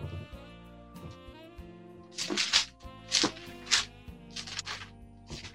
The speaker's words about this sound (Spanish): Qué lindo sentir el ruidito de las hojas. El ruido que hacía antes la Biblia.